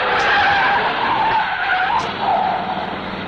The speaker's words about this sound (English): immeasurably enhancing the sleekness of that cut-down hot rod squirreling past us en route to a ball, 1956 teenage style.